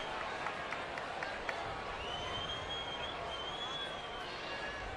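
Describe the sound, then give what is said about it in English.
A large crowd at Oracle Park roars steadily during the bottom of the second inning of a baseball game, a dense wash of cheering and shouting voices with a faint high whistle drifting above it, sustained without a break. “And the crowd here at Oracle Park can sense it as well.”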